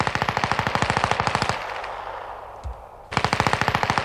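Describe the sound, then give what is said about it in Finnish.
Two loud bursts of rapid automatic gunfire fired by Rokka at fleeing men by a reedy lake shore, evenly spaced sharp reports, separated by a lull of about a second and a half with a low rumble and one dull thud. “Kaislikko vain kahisi järven rannassa ja Rokka saatteli heitä muutamalla sarjalla.”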